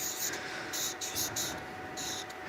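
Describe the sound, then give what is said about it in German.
Squeaky, scratchy strokes of a marker writing the word "Symptom" at the top of a board, in short bursts with brief pauses, moderately loud, over a faint steady hum. “Also zuoberst setze ich mal Symptom.”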